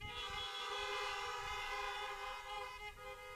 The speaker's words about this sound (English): why don't you give me a honk as a thank you for Bill